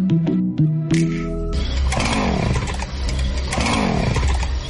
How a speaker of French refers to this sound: Regarde dehors, il y a un monsieur bizarre avec une scie mécanique et un masque.